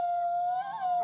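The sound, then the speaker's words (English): A wolf's howl holds a single steady, drawn-out note at fairly strong volume, with no voices alongside it. “I hear the wolf howling.”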